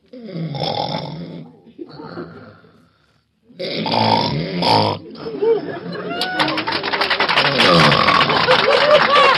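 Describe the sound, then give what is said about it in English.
A contestant in a snoring contest performs loud, rough snoring imitations, snorting and gurgling in a few bursts, then after a short pause a longer sustained stretch while crowd noise swells underneath. “You snore at home?”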